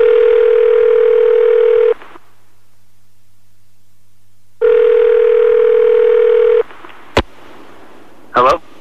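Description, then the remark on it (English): A telephone ringing tone sounds twice, each long steady burst lasting about two seconds with a silent gap between, followed by a sharp click and a short electronic blip as the line connects. “Right, let's call him.”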